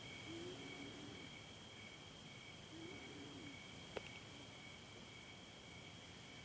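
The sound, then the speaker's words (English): A steady, continuous chorus of crickets trills throughout, soft against a quiet night background, with a faint low call twice and a single sharp click near the middle. “They seem to be just kind of the part of the background, like the noise of the crickets or the rumble of the cars down on the highway.”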